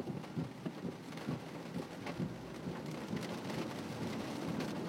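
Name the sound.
rain falling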